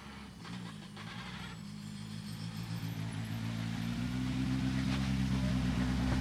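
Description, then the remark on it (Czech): A rally car, start number 8, arrives at the finish of a rally stage, its engine growing steadily louder. The low droning rumble has shifting tones and builds over several seconds as the car approaches, with no talking. “Teď ale přijíždí Roman Odložilík, startovní číslo 8.”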